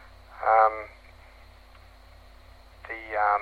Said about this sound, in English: Okay, this is an example of how analog audio sounds.